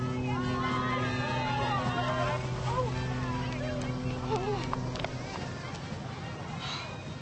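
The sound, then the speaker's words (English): A boat's engine drones with a steady low hum as the boat pulls away from the dock, beneath a murmur of crowd voices, then the hum cuts away partway through while the chatter carries on. “Oh, my God, the boat. Oh, no, no, wait! Wait!”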